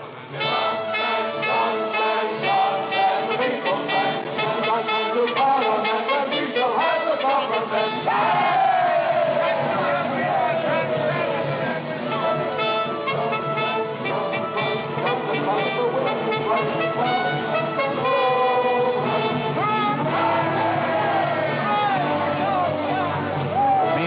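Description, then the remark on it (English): A large election-day crowd on the march cheers and shouts continuously while votes are counted, a loud, dense roar of many voices with rising calls and chants swelling throughout, unbroken. “As the outcome hangs in the balance, the bands still play and the crowds are on the march.”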